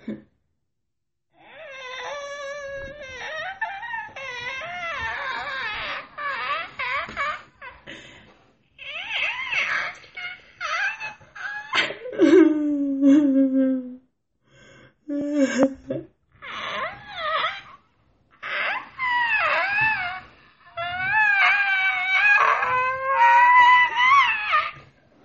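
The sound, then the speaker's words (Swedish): A person fakes crying for 30 seconds as a dare, with exaggerated, theatrical wailing in repeated sobbing bursts, high and warbling, with brief pauses for breath and a few laughs slipping through, loud. “Här kommer en liten konsekvens mitt upp i alla sanningar. Gråt i 30 sekunder.”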